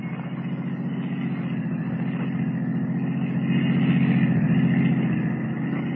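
A taxi cab's engine rumbles steadily as it follows a blue roadster, a continuous low drone that swells a little louder partway through as it drives on, with no voices.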